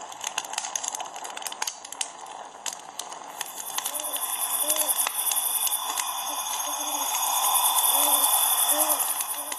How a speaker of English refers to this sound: What's that? An old horned owl. He's liable to catch a rabbit directly. That's a sound I never get used to.